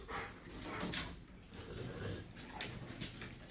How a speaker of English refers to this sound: Is that a Rottweiler? Yeah. Oh my gosh. I've never met a dog that likes bathing like that.